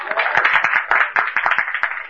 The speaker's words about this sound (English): Chanting the holy names of the Lord, chanting Hare Krishna. Give a loud applause here.